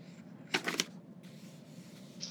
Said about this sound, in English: Hear the papers rustling as I'm looking for the right answer. The pages keep turning, which means he's finishing pretty far down.